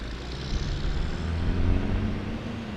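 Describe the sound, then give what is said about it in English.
Steady road traffic on Pelham Parkway in Pelham, Alabama, at a busy time of day rumbles past, a continuous low engine drone with a broad hiss of tires swelling slightly as vehicles go by. No one speaks. “It's a busy time of day on Pelham Parkway.”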